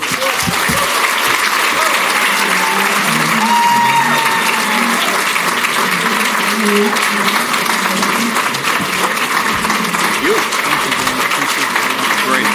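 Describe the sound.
A large crowd gives a standing ovation, clapping in sustained, dense applause that holds steady and loud for the whole stretch, with scattered voices and faint cheers mixed into the roar of hands.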